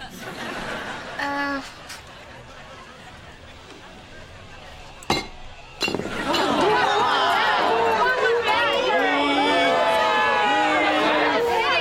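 A brief ringing clink, then two sharp, loud knocks against a sturdy juice glass that does not shatter as someone tries to smash it, followed by a noisy crowd of people chattering and laughing at a party.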